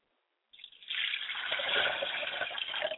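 Liquid is poured as a libation in a ritual, in a steady, continuous stream, splashing for a few seconds after a brief trickle at the start, with no voices.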